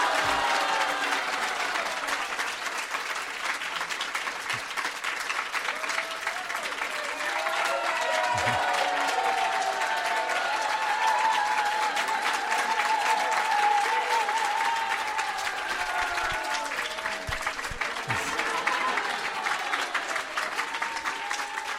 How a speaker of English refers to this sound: So give him a big round of applause for all. Давайте ему поаплодируем.